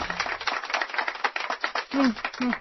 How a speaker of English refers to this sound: Yeah, I'm sure it has nothing to do with the giant knocking FBI cartoon hand at the door.